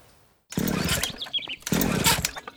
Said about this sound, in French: Maman, regarde dehors, il y a un monsieur bizarre avec une scie mécanique puis un masque.